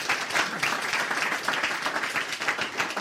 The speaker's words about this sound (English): Give him a clap.